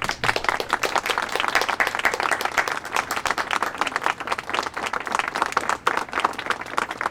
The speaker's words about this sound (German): bitte, Ihr Applaus!